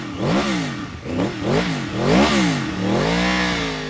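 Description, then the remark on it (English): A sleek blue R1 sport motorcycle, 180 horsepower stock, revs hard outside a motorsports shop in West Laramie, Wyoming, in several quick bursts, pitch climbing and dropping with each twist of the throttle, then settling into a steadier high idle. Loud, with no talking. “Outside TNT Motorsports in West Laramie, Andy Thompson shows off a sleek blue R1 motorcycle.”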